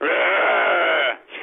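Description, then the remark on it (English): A person imitates a sheep with a long, wavering bleat lasting about a second, followed by a brief shorter bleat, loud with no other talking. “Can you do a noise of a sheep?”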